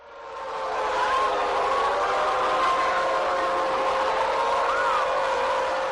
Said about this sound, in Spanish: Una alarma de un bombardeo, por desgracia, tan de actualidad.